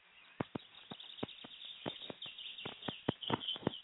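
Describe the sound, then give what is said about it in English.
Quick, bright bird chirps repeat irregularly over a faint, steady background, with several sharp tweets standing out. The calls are soft, and no one is talking. “And we can hear those birds in the background chirping away.”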